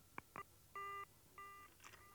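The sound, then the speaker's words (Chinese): Two sharp clicks of a phone being hung up by the caller on the other end, followed by a steady, buzzing busy tone that pulses on and off in regular repeated beeps over a quiet line. “电话的那边在片刻的宁静之后，又是挂断电话的声音和无尽的盲音。”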